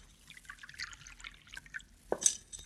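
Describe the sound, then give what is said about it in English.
Water trickles and splashes into a drinking glass for a couple of seconds, followed by a bright little glassy clink near the end. Fairly quiet, with no voices. “Yeah, I'll get you a drink of water, senorita.”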